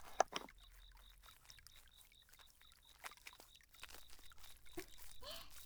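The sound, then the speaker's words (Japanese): Soft, wet squishing of a well-lathering body soap being lathered between hands, quiet, with irregular slippery rubbing that grows busier toward the end; no one speaks. “弟ちゃん、目の前にあるボディーソープ手に出して泡立てて。”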